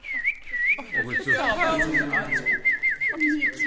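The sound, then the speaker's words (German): A person whistles a warbling, blackbird-like song, a steady stream of quick high trills, while a lower voice hums or talks underneath for most of the stretch. “Ich kann die Vögel nachmachen. Jetzt bin ich eine Amsel.”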